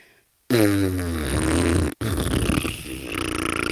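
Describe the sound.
A person blows a loud, buzzy raspberry with their lips, imitating a fart: a sustained flapping blat of about a second and a half, a brief break, then a rougher sputtering second burst.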